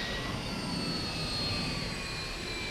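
aircraft engines running

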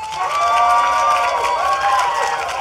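audience applause

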